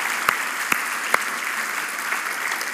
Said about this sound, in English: This year, to date, if you include Rock Nations and Excel's conference, we have seen 198 people give their lives to Jesus. Come on, that is worth a bigger round of applause.